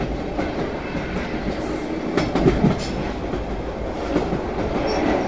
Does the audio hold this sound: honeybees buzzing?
no